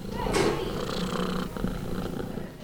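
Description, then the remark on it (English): A small orange cat named Chase purring in a rescue's cat room, a steady, continuous rumbling that fills the whole clip with no voices present. “that is Chase, the orange little tiny cat.”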